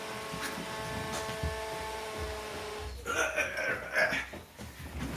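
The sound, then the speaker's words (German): A robot vacuum cleaner starts up: a steady, faint motor hum runs for a few seconds, then gives way to a burst of bright, warbling electronic tones and whirring. “Und jetzt geht mein Staubsaugroboter los und das ist nicht ganz so lustig.”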